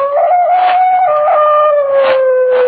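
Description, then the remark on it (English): A dog howls across a lake at night in one long, sustained, wavering note that slowly drifts lower in pitch, carrying steadily for a few seconds with no voices around it. “From somewhere across the lake, I heard the cry of a dog, and the sound of it filtered through and was carried along by the night air.”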